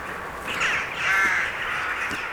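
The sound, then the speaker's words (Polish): A rook gives two harsh, raspy caws in close succession, the second longer and drawn out, clear against a faint background hiss. “W tej chwili gawron wpisany jest na czerwoną listę ptaków Polski, także na czerwoną listę ptaków zagrożonych w Europie.”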